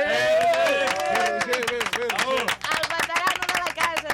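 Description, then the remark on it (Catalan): A packed crowd at a bar discussion gathering applauds with dense, steady clapping that grows busier after the first second or so, mixed with overlapping voices and cheering, loud throughout. “Veieu que aplaudeix molta gent.”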